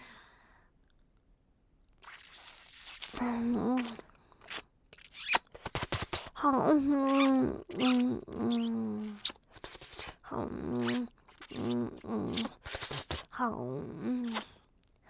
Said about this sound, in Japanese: 耳舐めしてあげる。耳がふやけるまでペロペロするから